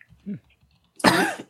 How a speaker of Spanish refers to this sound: Uy, y tose. Es por el efecto. En películas, eso, un personaje que tosa, ese se va a morir de algo.